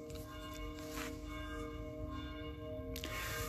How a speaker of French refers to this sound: Elles sont jolies, ces cloches.